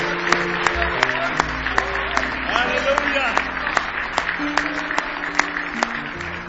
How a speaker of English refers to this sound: Somebody say praise the Lord. Let's give Him a big hand clap of praise if we love Him tonight with all of our heart.